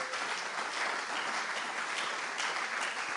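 Sustained applause from a crowd, a dense steady patter of many hands clapping at once, fairly loud and even throughout with no voices on top.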